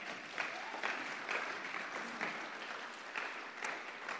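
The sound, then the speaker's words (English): A crowd at a church worship service claps steadily for about four seconds, a dense, sustained wash of many hands with a few sharper bursts, full, with no talking over it. “Can we just give God a clap?”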